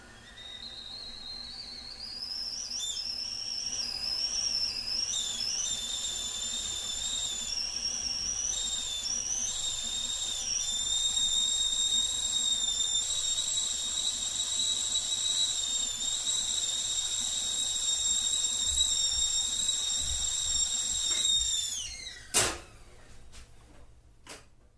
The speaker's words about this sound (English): A whistling kettle coming to a boil.